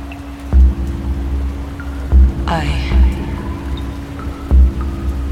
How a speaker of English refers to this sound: I walked the streets that you despised. I walked, and it would not stop raining.